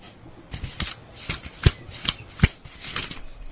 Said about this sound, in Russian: Давид зашелестел страницами книги.